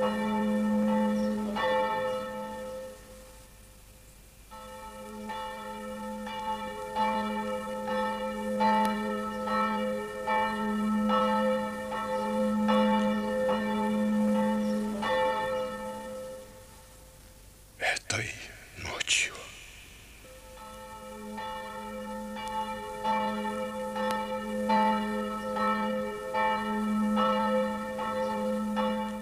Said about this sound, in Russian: В этот момент ударил церковный колокол.